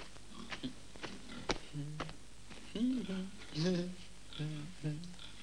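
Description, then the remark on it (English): Pigs in a pen in an alley by Burke's house grunt and snuffle while munching bits of food tossed to them, a run of low, throaty oinks mixed with scattered wet chewing and snapping sounds. “After tossing bits of food to the pigs, he walks toward the house.”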